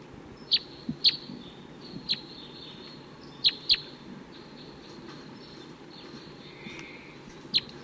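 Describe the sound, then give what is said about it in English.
Wild male birds call from nearby treetops in short, sharp chirps, some in quick pairs, scattered irregularly over a steady low background hiss, with no talking. “So it sounds like those wild males took off. They're still around, calling from the nearby treetops.”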